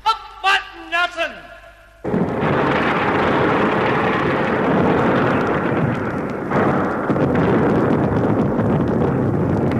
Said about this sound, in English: Yes, a massive explosion had brought the statue of Nelson and the upper part of the pillar crashing into O'Connell Street.